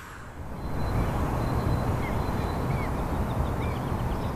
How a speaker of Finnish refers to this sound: Linnut laulaa. Terveiset täältä uuden koronaviruksen takia eristetyn Uudenmaan ytimestä. Helsingistä, kotiani lähellä olevan metsikön keskeltä, ison kiven juurelta. Elämme huhtikuun alkua vuonna 2020.